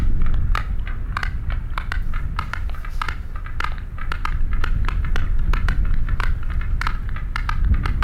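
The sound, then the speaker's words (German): Sperm whale click sequences: dozens of sharp, dry clicks in loose, uneven trains over a steady low rumble of background noise, with no voices present. “Jetzt der Pottwal, und der macht auch gar nicht so viel anderes als diese Klickfolgen von sich geben, aber so einfach das für uns klingt, da ist auch eine Identifizierung drin.”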